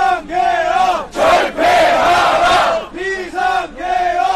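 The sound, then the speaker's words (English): A large crowd of protesters at the National Assembly chants "abolish the martial law" in unison, loud massed voices rising and falling in rhythmic, repeated bursts of syllables, with brief breaks between the phrases. “That chant of abolish the martial law.”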